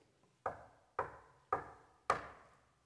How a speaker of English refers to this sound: Mrs. Obed-Edom, having taken care of Bobby and Susie after they came home from school, is getting dinner ready in the kitchen, and there comes a knock at the door.